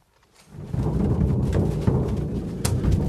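thunder from nearby lightning

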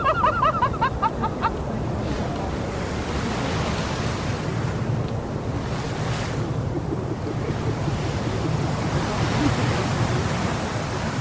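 geyser erupting

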